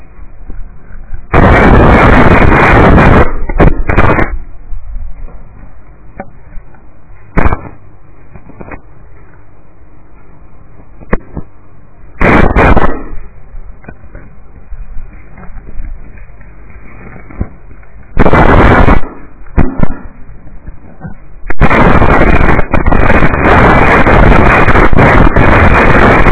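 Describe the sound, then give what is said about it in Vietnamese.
Wind and rain batter a microphone in loud, roaring bursts, with quieter rumbling stretches between the gusts and a long blast at the end; no one speaks. “Nó cũng còn gì đây, mưa gió gì đây nó bình thường tâm.”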